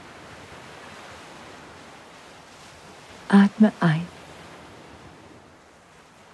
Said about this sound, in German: Du schaust dich um, siehst das türkisfarbene Wasser, wie es sanft das Ufer umspült und wie kleine weiße Blasen zurückbleiben, während es wieder in das Meer zurückfließt.